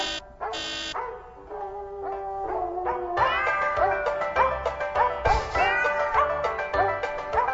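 A novelty tune built from recorded dog barks and cat meows pitched into a melody, the yaps and mews landing in quick rhythmic succession over a bright musical backing, loud.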